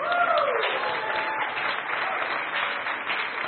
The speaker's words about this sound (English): Would someone clap for us, please?